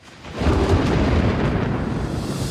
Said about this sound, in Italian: Jaguar E-Pace Thunder, il tuono dopo la tempesta.